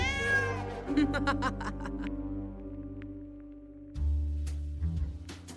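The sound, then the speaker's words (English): A passing cat gives a loud, drawn-out meow at the start, followed by a few shorter cries, all over a steady, low sustained musical drone that swells again near the end. “A volatile mixture is precariously placed, and now is agitated by a passing cat.”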